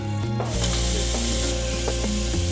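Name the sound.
water running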